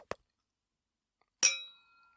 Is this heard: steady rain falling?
no